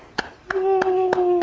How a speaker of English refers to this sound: Can you clap?